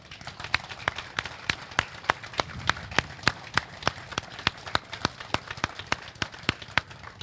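Applause of sharp, crisp claps in a fairly steady, quick rhythm, continuing for several seconds at a moderate level with no voices over it.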